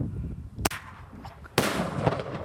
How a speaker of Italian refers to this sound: I tre guardiani non portano il fucile a tracolla, in un taschino del gilet hanno una specie di penna a sfera a cui possono applicare un petardo che esplode in cielo.